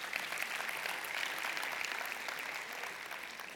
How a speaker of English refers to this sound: Give a hand to Christ if you're going to clap. It's for him.